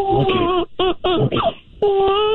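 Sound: newborn baby crying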